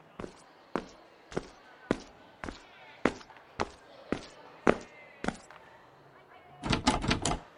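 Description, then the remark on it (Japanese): The handle of a locked door is tried, giving about ten sharp, evenly spaced clacks, then a rapid flurry of rattling at the end. No one speaks. “あれ、鍵がかかってる。”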